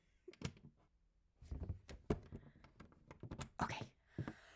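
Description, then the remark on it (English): A key jiggles and clicks in a door lock as the doors are locked, with a quick series of metallic rattles, scrapes and thunks as the bolt is turned. No one speaks. “I should have asked this before I locked the doors.”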